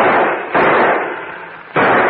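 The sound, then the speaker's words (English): Heavy gunfire erupts in loud, rough bursts, with sharp blasts striking twice about a second apart and a sustained roar of shots between them, intense with no talking. “Start blasting as soon as they stick their heads in that door.”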